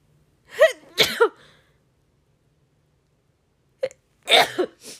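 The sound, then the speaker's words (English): A person sneezes twice, fairly loud, each a quick sharp intake followed by a voiced burst, with a few seconds of quiet between them. “I gotta sneeze, y'all.”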